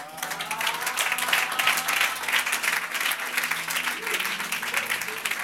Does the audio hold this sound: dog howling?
no